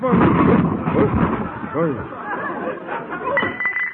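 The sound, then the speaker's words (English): A heavy crash as a statue of Caesar is accidentally knocked over, loud and clattering at the start, then fading as several voices break into excited chatter. “Gosh, you accidentally knocked over old Conklin, Mr.”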